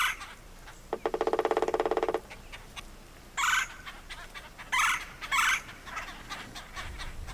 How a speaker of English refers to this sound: the red-bellied woodpecker, let's listen one more time, Bill, to those calls